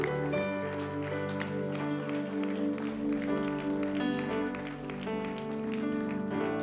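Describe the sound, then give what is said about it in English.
A church audience at a Sunday night service claps hands steadily and enthusiastically to the Lord over sustained, swelling keyboard chords, the applause a dense patter that continues throughout. “Clap your hands one more time to the Lord tonight.”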